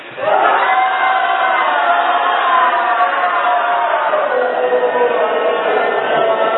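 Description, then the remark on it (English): A group of people, on cue, shouts and roars continuously, imitating the crowd cheering as Jesus entered Jerusalem on a colt: a loud, dense wall of overlapping voices like a massive parade crowd, sustained without pause from start to finish. “We're going to have the crowd sounds really loud. I think it was a massive parade.”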